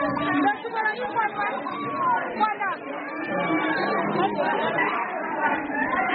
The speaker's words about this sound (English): I was there when 2 months later, those 21 girls finally returned to Chibok and reunite with their families. The room almost vibrating with the sound of unbridled joy.